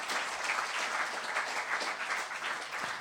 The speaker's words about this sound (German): Und ja, ganz, ganz herzlichen Applaus dafür.